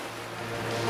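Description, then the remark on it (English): A steady, hissing wash of ocean waves in the middle of the ocean, with a low, constant drone underneath, swelling slightly louder toward the end. No voices. “200 verses later, and here I am in the middle of the ocean.”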